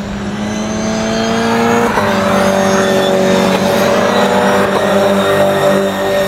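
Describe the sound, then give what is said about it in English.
Toyota GR86 race car engines drone loudly and steadily, their whining tones shifting in pitch as several cars pass by in a continuous stream, with no talking. “This is our first listen to the Toyota GR86.”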